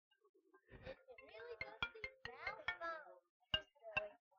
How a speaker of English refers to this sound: Whose phone is that? My pocket's ringing.